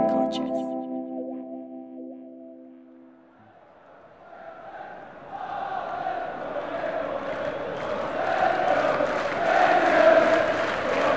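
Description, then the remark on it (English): Football fans screaming and cheering: a few seconds of sustained, buzzing tones give way to a dense crowd roar that swells and grows louder toward the end, with shouts rising above it. “Football fans will know these sounds well. Hope, anguish, screaming at the top of your lungs from sheer happiness.”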